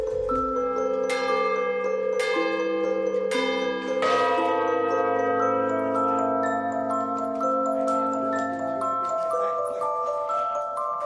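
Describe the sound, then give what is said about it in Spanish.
Church tower bells of the church of Santiago el Mayor in Utrera, Seville, Spain, ring out in a steady peal, several strikes overlapping with long shimmering overtones that hang in the air, loud with no voices. “Mira, se trata del campanario de la iglesia de Santiago el Mayor de Utrera, en Sevilla.”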